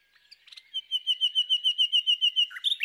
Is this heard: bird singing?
yes